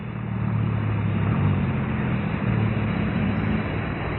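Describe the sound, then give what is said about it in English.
A car engine drones steadily, a low rumbling hum that holds at an even, moderate level throughout with no voices, as a car drives up a hill at night. “Say, the car coming up the hill.”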